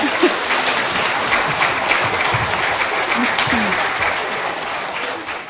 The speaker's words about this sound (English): Can we give them a big clap? That was really good.